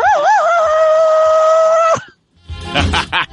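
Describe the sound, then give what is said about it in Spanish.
A voice imitates the Tarzan jungle yell of Johnny Waymuller, the first Tarzan, in a yelling contest: a loud, sustained, high-pitched cry that warbles at the start and then holds steady for two seconds, followed by a brief pause and a rougher, breathy vocal burst. “El primer Tarzán que trabajó se llamaba Johnny Waymuller. Ya. Y me gustaba porque era muy... Ah, sí. y fue un nadador olímpico. Y el grito es...”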